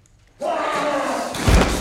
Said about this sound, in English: Lethan bursts out and slams Grant into the wall.